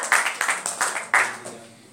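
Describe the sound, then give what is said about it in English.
An audience breaks into applause for Jesus after a prayer, a quick run of bright, uneven claps that holds steady for a moment and then thins and fades over about two seconds. “Can we give a round of applause to Jesus?”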